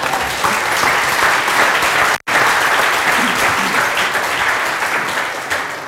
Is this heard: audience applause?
yes